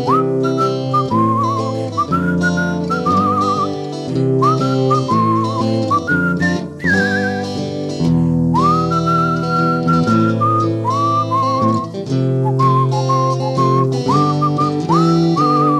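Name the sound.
person whistling a tune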